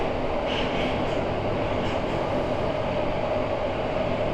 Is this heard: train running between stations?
yes